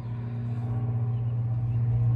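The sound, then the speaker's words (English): A low, droning engine rumble from an airplane passing overhead, steady with a humming tone that slowly swells louder across the couple of seconds, with no voices over it. “Oh, here's that plane I referenced.”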